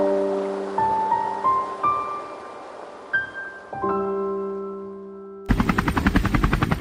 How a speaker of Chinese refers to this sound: 现在呢罗文辉坐在这个直升机上，哎，从高空看约旦河的下游